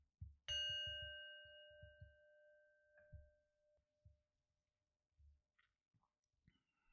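A single clear bell strike, rung to announce readiness for bed, rings out and its bright tone slowly decays over several seconds, with soft low thumps and faint rustling underneath and a lighter second tap midway.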